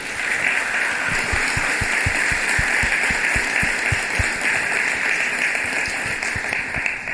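A crowd applauds steadily for about seven seconds, many hands clapping in a dense, even patter at a constant moderate loudness with no voices on top.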